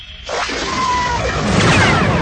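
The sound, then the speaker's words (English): A sudden burst of laser fire shot down into a forest, with a brief zapping whine, then a loud, roaring explosion of a squarish bunker about 15 meters on a side that swells and rumbles on to the end, continuous, with no voices. “He saw his lasers and Tycho's flash down into the forest below, and some hard target erupted into flaming explosion”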